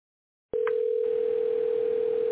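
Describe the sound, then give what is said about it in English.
After a brief silence, a telephone ringing tone starts abruptly and holds as one steady, loud electronic hum through the end, heard over a line with no talking. “I'm hearing the phone ring.”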